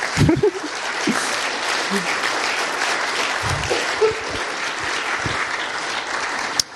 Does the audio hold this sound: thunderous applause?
yes